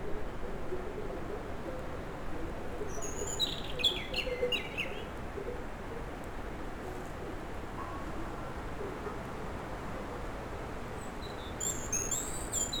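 Birds chirp and sing in bursts over a steady, broad outdoor hiss in a mid-mountain valley, with a cluster of calls early on and another near the end, with no voices.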